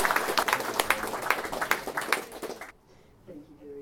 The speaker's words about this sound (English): It's been fantastic. We'll give him another round of applause. Please.